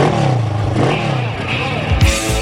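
A motorcycle engine revs loudly, its pitch climbing and falling in quick surges before a sharp final burst of throttle.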